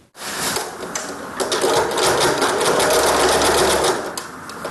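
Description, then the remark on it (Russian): A sewing machine stitching face masks for volunteers in a church Sunday school room, at the Church of Dmitry Donskoy, that was turned into a sewing workshop during quarantine. It runs steadily, its needle clattering in a fast, even mechanical rhythm over a low motor hum, loud and continuous for several seconds with no one talking. “Помещение воскресной школы при храме Дмитрия Донского на время карантина переделали под швейный цех.”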